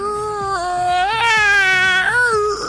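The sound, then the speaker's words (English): A voice imitates the creak of a big, dusty old book opening, holding one long, strained, wavering tone for over two seconds, its pitch bending up and dipping, loud and alone without other sounds. “So let's now open a big, creaky, dusty book.”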